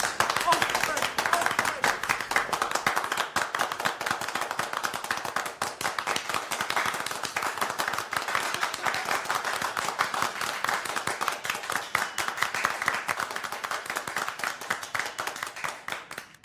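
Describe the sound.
A small group clapping steadily for about sixteen seconds, a dense, rapid patter of hand claps at a fairly even loudness, close by, with voices faintly underneath.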